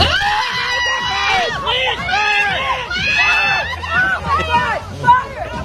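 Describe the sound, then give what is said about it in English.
Several women yell and scream excitedly at once, their high, overlapping voices rising and falling in a loud, continuous clamor with a sharper shriek near the end. “After I say that now, you listen to these women yelling.”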